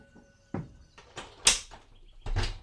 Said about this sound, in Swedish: Ellie öppnar bakdörren och går ut. Osman hinner inte säga något mer förrän dörren slår igen.